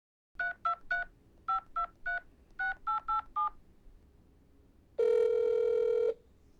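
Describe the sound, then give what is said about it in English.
Ten quick touch-tone beeps in three bursts as a phone number is dialed from a car pulled over by the road, a woman calling her father, followed by a single loud, sustained ringing tone lasting about a second. No voices. “She pulled the car over, called her dad, and hit record.”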